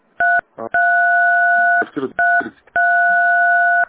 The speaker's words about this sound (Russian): Извините, вы там нажимаете клавишу, очень плохо слышно. Ой, нажимаю телефон.